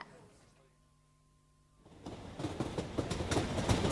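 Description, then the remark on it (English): An old Streatham to Victoria commuter train, older rolling stock from before the new trains were introduced: a faint steady electric hum gives way to a loud, building rumble with rapid rhythmic clattering of wheels over the track. “It's the Streatham to Victoria train. But it's one of the old ones, you know, before the introduction of the new rolling stock.”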